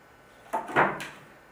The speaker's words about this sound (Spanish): Llaman a la puerta, ¿quiénes son?